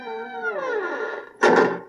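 A door creaks open softly with a drawn-out, wavering squeal that slowly drops in pitch, then a short dull knock ends it. Moderately loud, with no voices.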